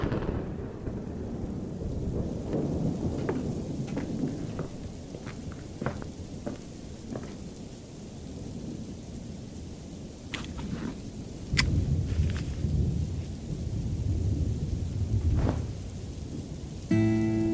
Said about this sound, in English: A day later, and a storm did appear.